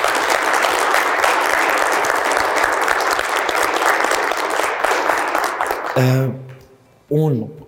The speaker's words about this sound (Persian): تشویق کنید لطفا.